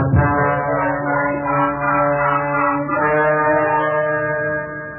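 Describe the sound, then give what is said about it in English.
A motorcycle approaches, its engine droning steadily with a buzzing, harmonic-rich tone, its pitch wavering and rising slightly midway as it runs without any voices, then easing off at the very end. “Under the blanket, here comes the motorcycle.”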